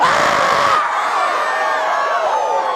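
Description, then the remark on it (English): A large crowd at a religious gathering erupts in loud, sustained shouting and cheering, with whoops and high-pitched yells layered together in a dense, continuous roar that fills the whole space. “I want some crazy shouting after we pull.”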